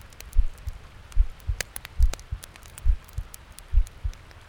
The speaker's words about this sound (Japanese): ねえ、聞こえる？ドキドキしてるでしょ？鼓動って落ち着くんだって。